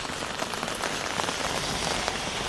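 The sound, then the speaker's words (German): Steady rain patters on an umbrella overhead, a dense crackle of many small drops tapping and clicking continuously with no voices. “Es regnet, Sie hören nur das Tropfen und Klappern, das Knacken könnte man fast sagen, der Regentropfen oben auf dem Schirm.”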